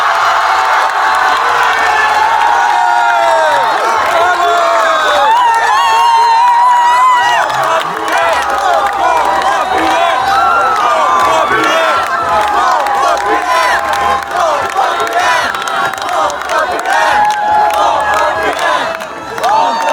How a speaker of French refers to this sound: C'est une explosion de joie qui a retenti hier à 20h pétante au bar Volvaire, place Bahadourian. Le nouveau Front Populaire avait installé là son QG pour le deuxième tour des législatives.